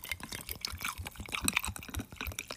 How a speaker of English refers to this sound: A little pouring. Let's see what this sounds like with the carbonated ice. Because it's a still water with a carbonated ice cube.